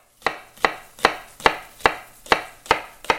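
A knife chops vegetables on a board in a steady, even rhythm, about eight crisp thuds roughly every half second, with no voices.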